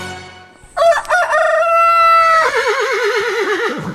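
A rooster crows loudly, one long drawn-out cock-a-doodle-doo lasting about three seconds and ending in a wavering, trembling tail.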